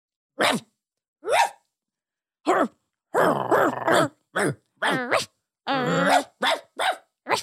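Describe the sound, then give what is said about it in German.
A person imitates a dog barking, letting out around ten short, loud, voiced woofs and yaps in an uneven series, some clipped and some longer and growly, with no other talk. “Also, ich weiß nicht, ob wir gesigned worden wären fürs Bellen, aber...”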